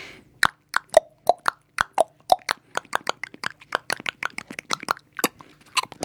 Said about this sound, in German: Pferdehuf Solo.